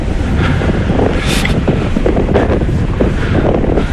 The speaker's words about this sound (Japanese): なんとなくねこうあの肌に当たる風がね、ちょっとね海が近いなっていう、気がしますよ。